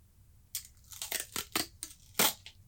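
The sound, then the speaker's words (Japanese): Duct tape is pulled off the roll in a series of short, sharp ripping bursts over about two seconds, uneven in rhythm, with no voices, as it is used to tape a mouth shut. “こうやって口をガムテープで塞いで。”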